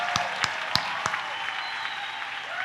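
A small crowd claps steadily for a few seconds, a dense patter of hands with a few sharper, louder claps standing out near the start, applauding the Four Seasons hotel at the Trail Foundation's 15-year anniversary event.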